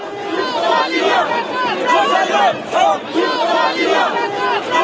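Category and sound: crowd, protest crowd chanting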